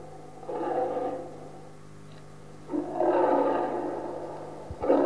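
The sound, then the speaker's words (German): A lion roars nearby in two deep, rumbling bursts, a short one followed by a longer, louder roar that trails off, with no talking. “Wenn du nämlich runterfällst, dann hat der Löwe ein gutes Abendbrot.”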